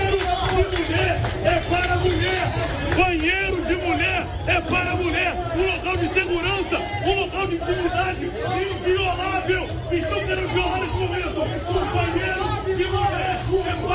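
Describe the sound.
A dense, loud crowd shouts and yells continuously in a chaotic commotion during a political demonstration at the Plaza Shopping mall, with people running, overlapping voices and hurried movement throughout.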